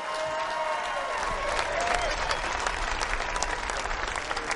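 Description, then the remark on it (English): A crowd at a Patriots Hall of Fame ceremony honoring Ty Law claps steadily for Rodney Harrison, Lawyer Malloy and Otis Smith. The applause is a dense, sustained wash with scattered cheers and a few whistles rising above it. “Big round of applause again.”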